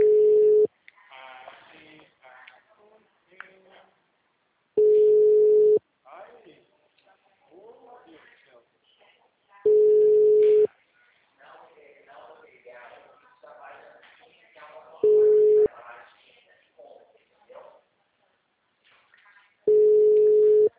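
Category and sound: signal or alarm, telephone call tone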